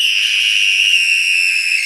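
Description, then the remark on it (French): A small boy throwing a tantrum screams, a shrill, piercing scream held on one steady high pitch for about two seconds, loud, with no other voices or sounds around it. “Le petit Douni hurle de plus en plus fort”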